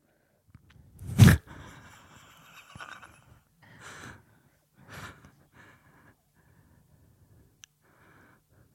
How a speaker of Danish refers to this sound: Ej, der kunne man godt lide, og det her er bare en detalje, man skulle få en lidt mere realistisk snorkelød.